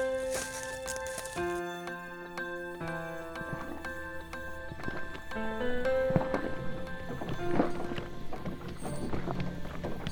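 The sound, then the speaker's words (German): A horse hauling logs in the forest clops steadily at a working pace, partly buried under instrumental music that plays throughout. No one speaks. “Die Holzrücker halten das Pferd am langen Zügel und geben ihre Kommandos aus ein paar Metern Entfernung über Rufe und Gesten”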